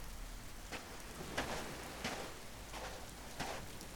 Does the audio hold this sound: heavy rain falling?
yes